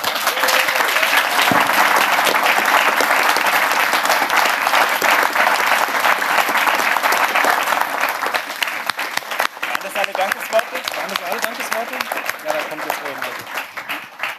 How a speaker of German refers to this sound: Ich hoffe, ihr habt euch den dicksten Applaus noch aufgespart. Ich hoffe, die Handflächen tun noch nicht weh und ich hoffe, sie tun es in 5 Minuten.